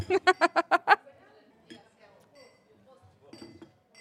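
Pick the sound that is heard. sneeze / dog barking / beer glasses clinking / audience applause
beer glasses clinking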